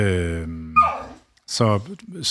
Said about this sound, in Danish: Hold da op, en utålmodig hund.